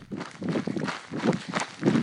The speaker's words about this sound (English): Now that is a beautiful noise. The pack I carried has these water bottles. They slosh around and make a lot of noise, but only when I run, not when I walk. Usually I find it really annoying, but this time it was a welcome noise to hear.